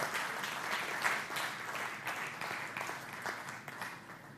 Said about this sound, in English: And Jesus Christ is that Savior today. Why don't you give him a hand clap of praise?